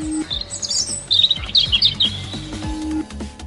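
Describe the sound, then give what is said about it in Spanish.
A bird sings a run of bright, twittering chirps and trills high in pitch, over a low rumbling background with steady hum; no one speaks. “Con los sonidos, un pájaro defiende su territorio.”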